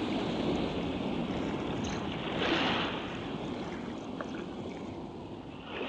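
Steady wind blows across open sea, moving the sail of a fishing boat as it goes out at nightfall, a continuous broad rush with the wash of waves underneath and a brief gust swelling midway. No one speaks.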